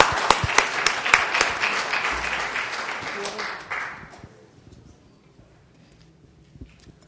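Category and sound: crowd, round of applause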